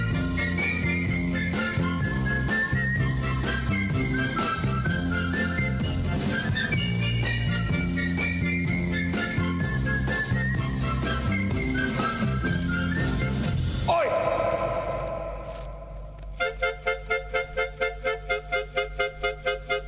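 A bouncy whistled melody rides over a full instrumental pop backing, loud, played as the closing record of a Friday radio show, then near the end the music shifts into a sparser section of steady pulsing tones. No one speaks.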